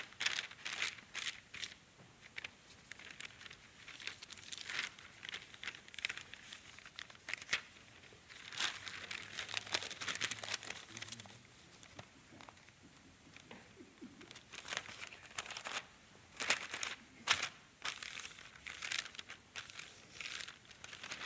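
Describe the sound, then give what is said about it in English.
Paper is crumpled and folded, a steady run of crinkling, crackling rustles with sharper snaps now and then, going on for about twenty seconds with no one talking. “This guy says, "You know, it's no telling what Jesus can do with a piece of paper."”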